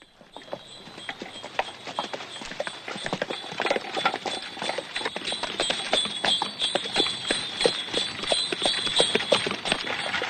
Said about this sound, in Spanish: No hay música en Bella de Día. En su tráiler se oyen campanillas de caballos y latigazos de fondo.